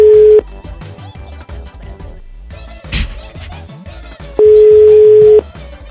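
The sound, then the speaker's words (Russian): A loud, steady telephone busy tone sounds briefly at the start and returns for about a second near the end, with muffled music-like line noise in between, on a call dialed to a caller apparently from Yaroslavl Oblast, Russia. “Там есть телефонная связь? Судя по всему, не очень. Как видите, нет.”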